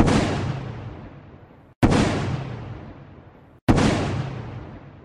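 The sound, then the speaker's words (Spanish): Three loud gunshots ring out about two seconds apart, the shots that killed Colombian Liberal Party leader Jorge Eliécer Gaitán in the Bogotazo, each sharp crack trailing into a long, rumbling echo that fades before the next shot. No voices. “Tres disparos cobraron la vida de Jorge Eliécer Gaitán.”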